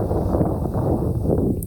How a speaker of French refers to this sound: Non, il marche dans les graviers, là.